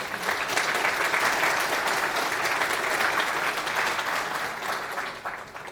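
An audience at a talk on logging claps for themselves for about six seconds, a dense, even patter of many hands that holds at a fairly loud level before tapering slightly at the end.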